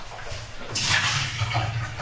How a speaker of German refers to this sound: Wasser noch ausleeren. Wasser noch ausleeren.